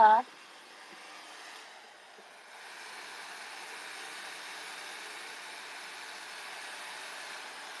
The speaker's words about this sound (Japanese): 暑いよ、暑いですよ。はあ、暑い、ダメだ、ドライヤーかけてると暑い。かけなきゃ、でも。